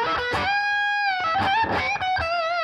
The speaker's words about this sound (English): You know, it's all at that same level. This being the distortion pedal.